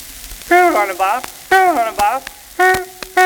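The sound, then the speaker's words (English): A voice imitates a touring car's horn with three loud, nasal honks, the first two wavering and sliding, the last a steadier blast, over a faint crackly hiss. “I will attempt the call of the touring car to its young.”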